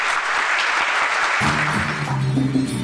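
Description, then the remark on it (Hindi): Loud, dense applause from a large audience in a cinema hall, clapping as the film's hero punches the enemy, fills the whole stretch, and about halfway through, music with sustained tones starts up underneath the clapping. “ये हीरो दुश्मन को घूंसा मारता और हॉल में ताली होती।”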